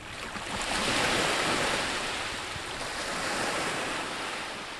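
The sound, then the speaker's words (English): Soft waves wash steadily onto a tourist beach in the southern hemisphere summer, a broad continuous hiss of surf that swells gently and recedes, with a light breeze in the background and no voices. “Today, soft waves lap up on the beach in front of where Andrade's home once stood.”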